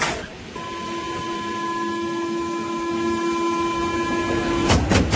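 A metro train rolls along with a steady rumbling roar and sustained whining electric motor tones, ending with a short burst of clattering near the end. No one speaks.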